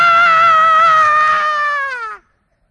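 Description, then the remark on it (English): A single loud, sustained, high-pitched scream from one voice, someone imitating a person screaming. It holds steady for about two seconds, then dips slightly in pitch and cuts off abruptly. “Problem was, they didn't hear any screaming when the brothers went in.”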